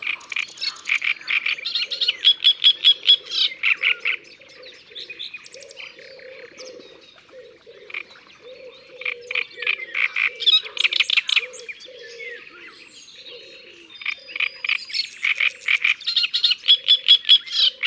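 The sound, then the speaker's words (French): A great reed warbler sings loudly, perched near the top of a reed at the water's edge: a rasping, croaking chatter of repeated harsh phrases in bursts, with a lower grating churr running beneath and no voices. “Nous allons nous approcher des roseaux, au bord de l'eau, pour écouter la rousserolle turdoïde.”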